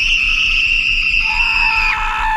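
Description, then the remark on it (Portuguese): Sustained, high-pitched screaming that holds steady and loud for a couple of seconds, then drops slightly in pitch near the end, over a low rumbling background. “Então ouvi gritos.”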